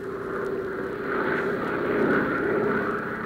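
A propeller airplane drones steadily overhead, a sustained engine hum with a broad whooshing rumble that swells slightly as it passes, with no voices present.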